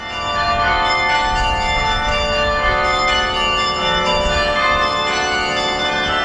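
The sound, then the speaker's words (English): A carillon of 48 bells, from 29 pounds to 2 tons, in the 120-foot tower of Idlewild church, played by carillonier McClure in music dedicated to Dr. King, rings out a slow melody, many bells struck in turn with long, shimmering overtones blending together, loud and steady throughout with no voices. “McClure is a carillonier, someone who can play an entire arrangement on church bells.”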